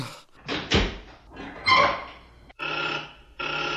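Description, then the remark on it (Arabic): A heavy prison door is unlocked and opened by a jailer: a few loud metallic clanks and bangs, then a sustained rough grinding rattle as it slides, with no voices. “أيها السجان، أريد الرحيل، افتح الباب.”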